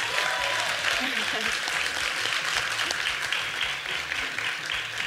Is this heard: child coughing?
no